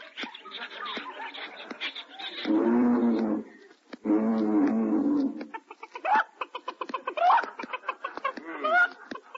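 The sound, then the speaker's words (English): Chickens cluck and squawk in quick, scattered bursts at the Central Park Zoo, with two longer drawn-out animal calls near the start, and no talking. “Having chicken for dinner.”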